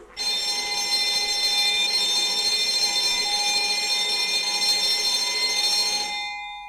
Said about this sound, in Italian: Il campanello squilla perentorio sul vocio confuso dei compagni e sull'ultimo richiamo burbero benefico del bidello.